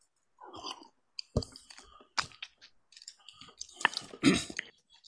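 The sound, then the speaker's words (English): Someone takes a drink of water: a few wet gulps and swallowing sounds mixed with clicks and a sharp clatter, all without speech. “I'm going to get a quick drink of water here.”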